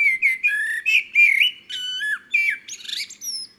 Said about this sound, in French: Bon, je résume. Ce matin, on a entendu Pirouit, le merle du jardin de Tonton.